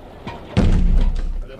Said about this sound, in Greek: Κλείσε εκείνη την πόρτα.